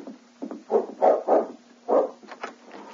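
A dog, King, barks several times in an uneven run at the kitchen door of the tavern at Halfway: four or five sharp mid-pitched barks, with a couple of softer yips trailing off and a faint steady hum underneath.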